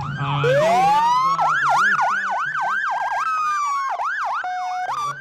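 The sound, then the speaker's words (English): Several emergency vehicle sirens from an ambulance, a fire truck and probably a police squad car in a parade wail at once, with rising sweeps and fast yelping warbles overlapping loudly and continuously as the vehicles roll past, a low engine rumble underneath. “We have the ambulance. I believe we've got the fire truck, probably a squad car.”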